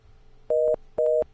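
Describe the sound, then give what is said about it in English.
A telephone busy tone: two short, steady mid-pitched beeps of equal length, separated by brief gaps in an even on-off rhythm, heard alone over a faint low hum. “Hey, we got a busy tone over there.”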